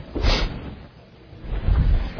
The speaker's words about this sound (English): Is it okay if I pull this door shut